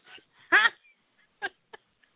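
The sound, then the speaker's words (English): Heavy, raspy breathing from a caller from area code 215 over a phone line to a live call-in show: one loud wheezy gust followed by a few shorter, fainter huffs at irregular intervals, thin and band-limited, with no talking. “It sounds like they're sleep or breathing.”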